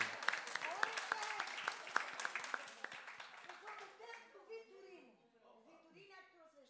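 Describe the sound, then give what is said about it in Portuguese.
An audience breaks into dense applause for a woman, many hands clapping loudly for about four seconds before it thins out and voices start talking over the fading claps. “Uma salva de palmas para aquela senhora, pá.”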